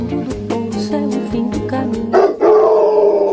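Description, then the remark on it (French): A dog, Pompidou, howls in long, wavering, high-pitched cries that swell louder toward the end, with a series of sharp clicking taps running through the first half. “Oh, c'est pas la peine de gueuler, Pompidou.”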